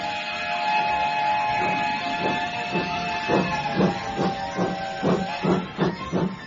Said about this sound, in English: As the 9:30 chugged away, William was left standing forlornly on the platform.